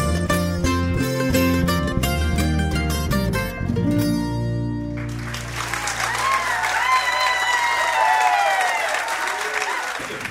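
A live song ends on a held chord, then a crowd bursts into loud, sustained applause with cheers and whistles that carries on to the end.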